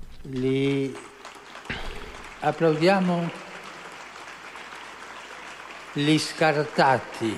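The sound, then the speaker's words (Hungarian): A crowd claps steadily in the background, a dense wash of applause that carries on beneath a man's voice speaking loudly over it in short bursts; the applause is for all members of society, including the elderly and young children. “Tapsoljuk meg az időseket, a fiatal gyerekeket.”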